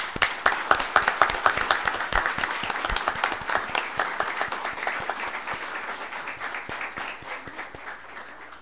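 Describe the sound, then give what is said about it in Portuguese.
A crowd applauds a group of girls with dense, rapid clapping that starts strong and gradually tapers off over several seconds, with no voices standing out. “Quero pedir uma salva de palmas para essas meninas.”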